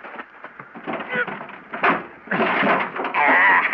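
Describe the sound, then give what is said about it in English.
A stuck baggage compartment door of a wrecked plane, half buried in loose rock, is pulled, wrenched and forced, with a sharp jolt midway and then a long, loud scraping strain, mixed with voices. “In the baggage compartment. I go pull the door open.”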